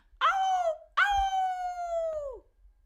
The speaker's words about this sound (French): Alors que Souris rentre dans la nuit, un hurlement terrible retentit.